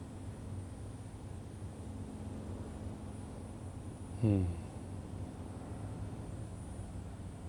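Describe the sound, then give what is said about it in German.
A small propeller airplane drones steadily in the background, a low continuous hum that hardly changes. Midway through, a brief sweeping sound briefly rises above it. “Wenn du im Hintergrund vielleicht andere Geräusche hörst, ein kleines Flugzeug, nimm auch diese Geräusche einfach dafür, um tiefer in dich selbst einzutauchen.”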